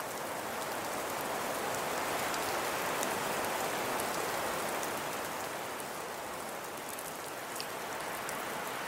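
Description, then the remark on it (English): A steady wash of white noise static, an even, unbroken hiss spread across the whole range, with faint crackly ticks in the upper end and no voices. “White noise to me has always sounded like falling snow.”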